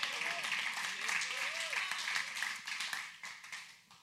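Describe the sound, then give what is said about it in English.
A crowd breaks into steady, dense applause, with a few voices calling out early on, before the clapping thins and tapers off toward the end. “Hang on before you clap.”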